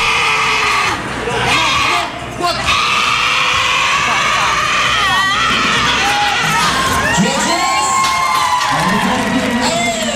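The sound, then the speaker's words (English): A woman in a weightlifting competition lets out a long, strained, bleating cry of exertion, wavering up and down in pitch, over loud, constant crowd noise and cheering. “It's an old piece of audio from a woman in a weightlifting competition.”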